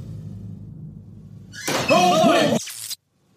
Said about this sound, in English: Here's the view from the hallway camera when the door slams shut. Please close that door if you opened it.